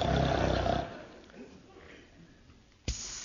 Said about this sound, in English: I've just put on this record of royal snoring. Oh, that's what money can do for you folks.